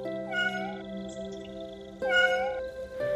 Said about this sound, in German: Schon kurze Zeit später beantwortet sich diese Frage, als ihr ein klägliches Mauzen hört.